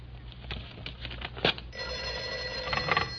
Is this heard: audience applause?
no